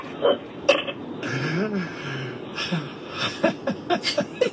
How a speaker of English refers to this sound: She's still coughing. Oh, jeez.